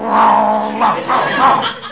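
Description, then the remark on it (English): A man on all fours imitates a dog's growl, a loud, rough rumbling sound lasting a couple of seconds, rising and falling in a few uneven surges with no words spoken. “He growls, so I'll growl.”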